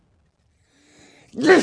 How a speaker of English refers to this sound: Don't sneeze at me.